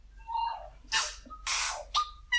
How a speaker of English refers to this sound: It's everything that you hear in the recordings I've made are actually a tui, no electronic manipulation or anything like that, and they're renowned as imitators. They imitate other birds. So that's a tui.